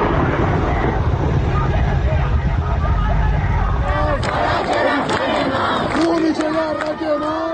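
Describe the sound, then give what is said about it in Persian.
A loud, chaotic crowd shouts and yells throughout a clash with protesting students around the University of Kurdistan in Sanandaj, and in the second half a series of sharp, irregular gunshots cracks out over the uproar. “در این ویدئو که از اطراف دانشگاه کردستان در سنندج ارسال شده صدای تیراندازی و درگیری با دانشجویان به گوش می رسد.”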